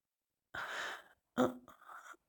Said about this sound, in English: I gasp when your fingers find my clit, rubbing slow, languid circles as you press soft kisses and teasing bites into my tender neck.